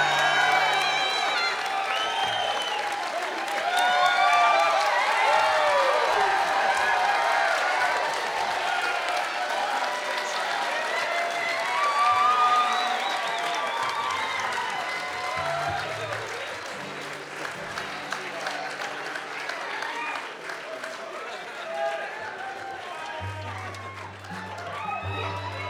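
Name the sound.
audience applause and cheering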